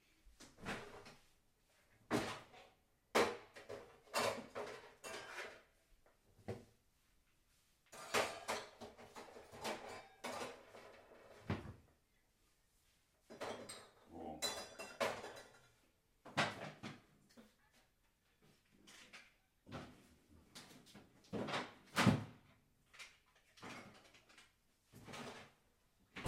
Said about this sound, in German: Richtig, ich packe die drei Dinge jetzt um. Jetzt haben wir es 17.25 Uhr. Diese drei Flaschen kommen alle nebeneinander ins gleiche Fach in den Kühlschrank hinein.